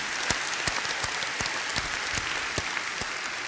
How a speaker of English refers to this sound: Let's clap for them too.